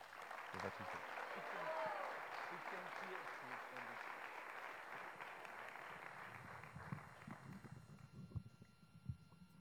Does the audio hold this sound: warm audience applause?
yes